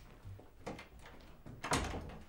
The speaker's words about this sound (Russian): Максанс открывает дверь перед Матье, выходит следом.